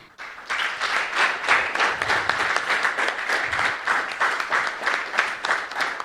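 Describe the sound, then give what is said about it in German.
Sustained audience applause for the Chaos Computer Club Wien, a dense, steady wash of many hands clapping at a fairly even loudness for several seconds, with no voices standing out. “Und ganz großen Applaus und großes Dankeschön an den Chaos Computer Club Wien.”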